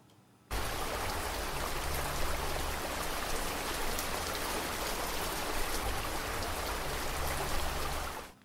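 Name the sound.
rain falling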